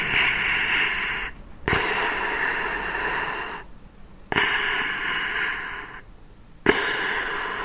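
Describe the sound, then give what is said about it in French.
A mechanical ventilator cycles steadily: broad hissing airflow runs for about two seconds, stops briefly, and restarts with a soft click, repeating three times at a very even pace. No voices. “On m'a dit que ça s'appelait un respirateur.”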